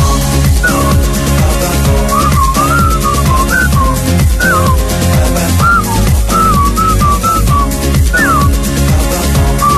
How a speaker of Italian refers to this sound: io vorrei che tu nel prossimo disco gentilmente mi chiamassi a fare il fischio. Lo faccio benissimo.